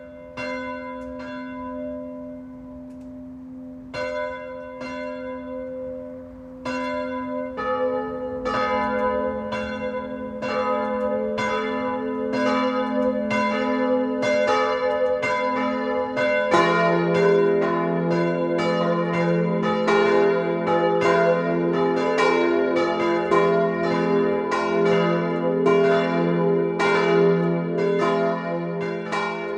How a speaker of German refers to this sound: Es ist 12 Uhr. Das Mittagsläuten kommt heute von der evangelischen Auferstehungskirche im unterfränkischen Schwebheim.